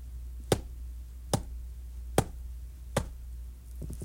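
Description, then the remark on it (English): Four sharp knocks on the door of a cove, evenly spaced at a slow, steady pace, heard alone against a quiet background hum with no one talking. “So he went to Foxina's cove and knocked on the door.”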